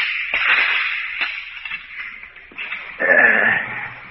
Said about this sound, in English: Just a minute. While I open the door.